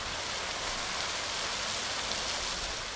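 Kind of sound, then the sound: ambience, water splashing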